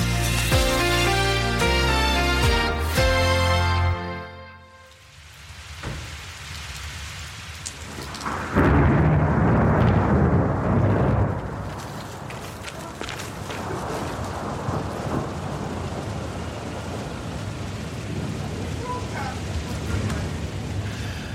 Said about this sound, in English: We've got thunder and lightning, so if this programme disappears, I'm not joking here,